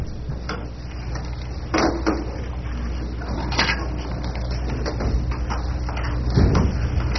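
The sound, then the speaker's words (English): A back door is pulled shut with a few scraping, knocking bumps spread over several seconds, heard against a steady low room hum with no talking. “So we have to close that back door then, huh?”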